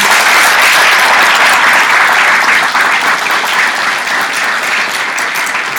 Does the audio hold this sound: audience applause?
yes